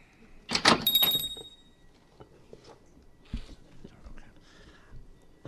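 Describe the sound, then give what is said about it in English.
A workroom door is shut with a sharp, loud thud and a brief bright ringing tail, followed by quiet whispering and soft rustling. “Now I'm shutting the door.”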